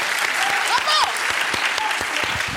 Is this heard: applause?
yes